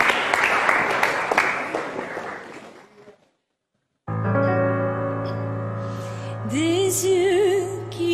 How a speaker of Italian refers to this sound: Applauso, in bocca al lupo.